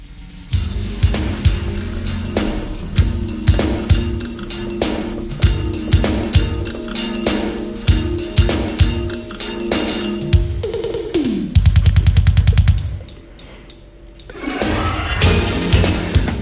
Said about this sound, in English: Actually, if we could just take a break in this conversation to hear this quick drum fill.